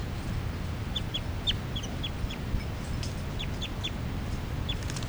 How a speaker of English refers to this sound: 3, 3, and the new juveniles are giving calls here, flight calls. According to these captive birds are respectively 383, 384, which is the juvenile female, 385 and 386.